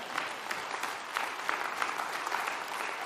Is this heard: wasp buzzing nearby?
no